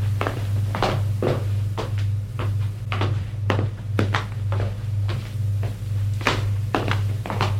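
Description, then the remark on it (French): Steady footsteps of a man following a woman tap along at a walking pace, fairly crisp, with a constant low hum underneath and no talking. “Il se lève et la suit.”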